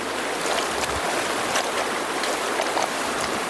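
Steady rushing of a flowing stream, a continuous bright wash of water with small splashes and trickles bubbling through it, fairly loud, with no voices.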